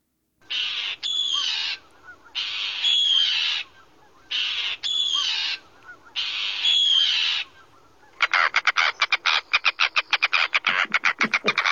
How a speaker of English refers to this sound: Okay, let's listen to the Arctic tern.